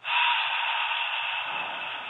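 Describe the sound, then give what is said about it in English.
A long, forceful breath pushed out through the open mouth on a breathy 'hhh' during a breathing exercise, a steady airy hiss lasting about two seconds with no talking. “Exhale on an H sound.”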